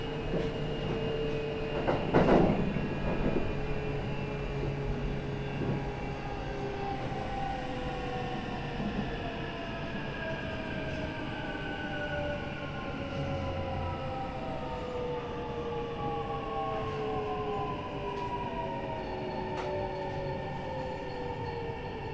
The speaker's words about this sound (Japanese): Arriving at 河内小坂 Station number A8. The doors on the left will open.